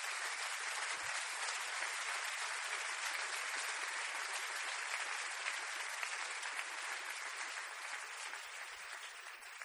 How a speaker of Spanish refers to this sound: Dale gracias a Dios y dale un aplauso por lo que Él va a hacer.